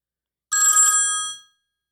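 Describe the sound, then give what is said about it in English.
A phone ringtone sounds once: a bright, bell-like chime with shimmering metallic overtones that rings out and fades smoothly over about a second, with no talking. “Here's my ringtone.”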